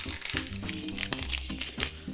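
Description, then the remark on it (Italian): A paper bread bag rustles and crinkles for a couple of seconds, with irregular crackling bursts and soft handling noises, no voices over it. “Ma che rumore fa sto sacchettino? Non so che sacchetto hai preso lì. Quello del pane.”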